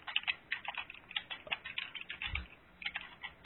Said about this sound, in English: Yeah, but we can still hear your typing clear as day, though.